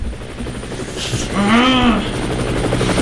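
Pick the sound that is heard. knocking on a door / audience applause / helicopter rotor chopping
helicopter rotor chopping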